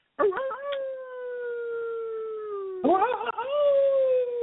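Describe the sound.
A person lets out two long, loud wolf-like howls, a howl given at 9:30, the first sliding slowly downward and the second rising then holding steady, a human voice imitating a howling dog, with no talking.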